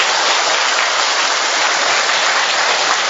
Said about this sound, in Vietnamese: Một tràng pháo tay thật lớn để chúng ta tạ ơn Chúa, thưa anh chị em.